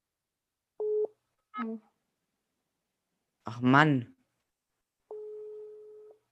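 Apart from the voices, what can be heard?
phone call ringing tone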